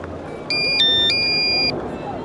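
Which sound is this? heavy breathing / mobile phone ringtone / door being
mobile phone ringtone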